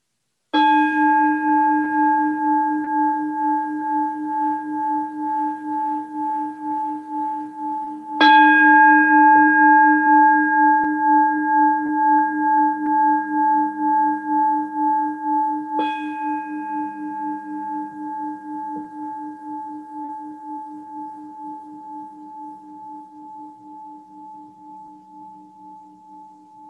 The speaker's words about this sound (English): So we'll end the class with inviting the bell of mindfulness 3 times.